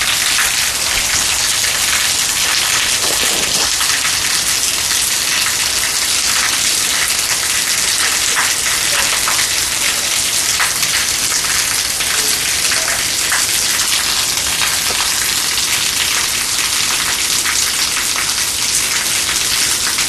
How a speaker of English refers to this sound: This rain is coming down in torrents. Making it impossible for me to breathe out here.